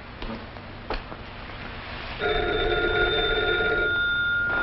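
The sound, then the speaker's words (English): An old-fashioned telephone bell rings once in a sustained, buzzing trill partway through, fairly loud, over a low background hiss with a couple of faint knocks beforehand. “One guy answers the phone.”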